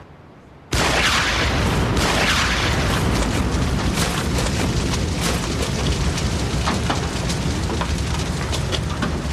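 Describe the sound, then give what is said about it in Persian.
A sudden loud dynamite blast erupts, followed by a sustained roaring rumble with crackling debris that continues for several seconds without fading much. “من تو رو به خاطر انفجارهای بی صدا استخدام کردم. این یکی چرا انقدر صدا داشت؟”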